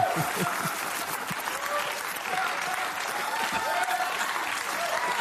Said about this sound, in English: So please, a nice round of applause for straw man, ladies and gentlemen. See? There he is.